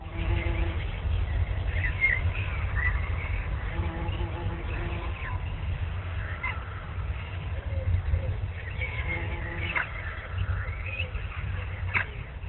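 Scattered bird chirps and short tweets come and go over a steady low rumble of background noise, fairly faint, with no clear voices.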